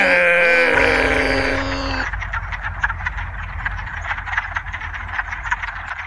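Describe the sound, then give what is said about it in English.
An explosion that sounds like a dense chorus of countless frogs croaking at once, overlapping into a constant, rattling din, preceded by a brief, loud, tonal wail in the first two seconds. No one speaks. “It sounded like thousands of tiny frogs.”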